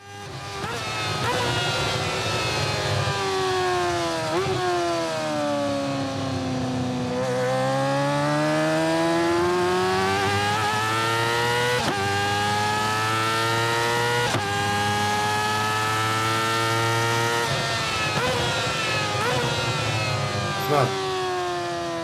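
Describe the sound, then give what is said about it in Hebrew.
A ZX-4RR sport motorcycle engine revs loudly, its high-pitched whine climbing and dropping repeatedly for over twenty seconds as if accelerating through gear changes. “תראה אם אתה יכול עכשיו להכניס את הסאונד של ה-ZX4RR, אוקיי? שאספתי אותו מהסניף, אמרו לי הסאונד, הסאונד, הסאונד, ובאמת, לא סתם אומרים את זה אנשי בחירות, זה באמת הסאונד הוא מטרף.”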